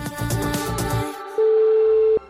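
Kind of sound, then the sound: signal or alarm, telephone ringing tone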